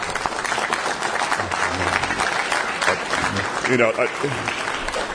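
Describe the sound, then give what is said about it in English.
A crowd of union supporters at a CBS gathering in Los Angeles applauds steadily for several seconds, a dense wash of many hands clapping at once, with a voice briefly audible over the clapping near the end. “If you want to show support, just wave your hands, but don't applaud.”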